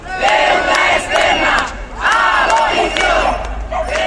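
A crowd of protesters at a demonstration shouts loudly in unison, voicing criticism of multinational companies of the rich world and of foreign debt, chanting in rhythmic bursts that repeat roughly every second, many voices blending into a raised, insistent roar.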